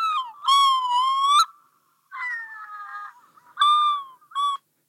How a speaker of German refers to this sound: Der Gelbschnabeltaucher klingt so ähnlich, auch sehr schön. Ich gucke mal, ob ich ihn gerade da habe.